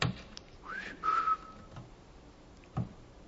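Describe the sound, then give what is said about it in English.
A person gives a short whistle, a quick rising swoop followed by a steady held note, like a call to summon, with only faint background noise and no talking. “And God says he's going to whistle them like a fly.”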